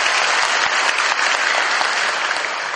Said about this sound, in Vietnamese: Chúng ta cho một tràng pháo tay chào đón.